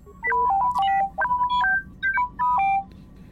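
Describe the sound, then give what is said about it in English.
The droid T3M4 chatters in rapid electronic beeps and bloops, a string of short warbling tones that jump between high and low pitches in several quick bursts, with no talking. “Of course, T3M4 will have not a whole lot of nothing to say, but let's hear those beep and bloops.”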